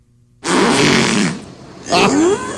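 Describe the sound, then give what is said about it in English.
Two loud, buzzy killer whale calls: a long, raspy harmonic burst, then a short pause and a second call that sweeps upward in pitch into a squeal. “This is supposed to be a killer whale talking.”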